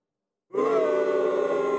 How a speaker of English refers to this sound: That was the soundboard booing itself. Sounds like a Three Stooges episode in your computer. A weird, fucked up Three Stooges episode.